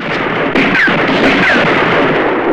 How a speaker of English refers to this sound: John fires, starting another shootout. Ramon, targeting a Baxter man, shoots in lightning-quick succession.